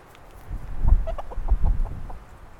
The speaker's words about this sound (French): Et là, c'est mes petites poules.